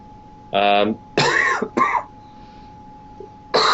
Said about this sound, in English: I apologize for the cough.